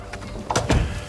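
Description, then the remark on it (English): A door swings shut with a short scrape followed by a solid thud and latch click, heard alone without any talking. “Shut the door.”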